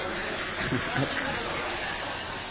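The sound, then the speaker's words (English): A group of people imitates rain with their voices, a steady, moderately loud hissing and shushing wash that lasts throughout, with a few brief vocal bursts mixed in near the start. “Everyone make rain sound.”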